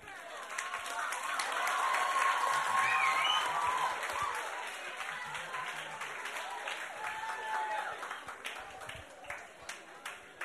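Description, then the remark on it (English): A crowd applauds with dense, steady clapping that swells over the first few seconds, then gradually thins into scattered individual claps, with faint voices mixed in beneath. “Let's clap for all those who copied.”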